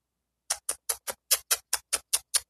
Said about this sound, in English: clock is ticking.